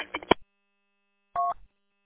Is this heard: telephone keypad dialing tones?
yes